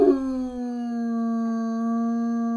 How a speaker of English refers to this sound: described as a 7-foot-tall, blue-eyed, beautiful blue eyes, or amber-eyed, bipedal, canine-like animal with the torso of a man and a fearsome howl that sounds like a human.